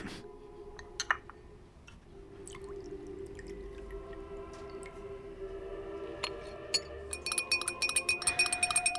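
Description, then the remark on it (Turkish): A spoon clinks against a glass of tea with two sugars, a few scattered taps early on, then a quick run of rapid, bright stirring clinks near the end, with a faint hum beneath. “Bir bardak daha alır mısınız? Lütfen. Ve iki şeker.”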